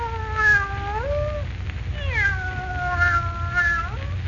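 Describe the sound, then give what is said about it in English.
A cat lets out two long, drawn-out meows, fairly loud, their pitch wavering and sliding, over a low steady background rumble with no talking. “Cat's opening its mouth. Maybe it's going to talk.”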